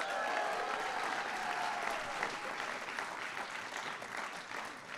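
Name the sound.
crowd applause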